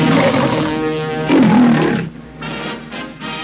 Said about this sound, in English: The curtains part, the lion roars, and Hollywood takes over.